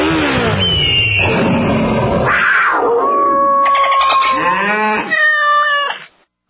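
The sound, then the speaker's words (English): In a Progressive motorcycle insurance radio ad, a sound effects guy imitates a motorcycle engine revving with his voice, making loud rising and falling whines and sputters that stop abruptly at the end. “At Progressive, we know there's nothing like the feeling of riding a motorcycle with your crew on the open road.”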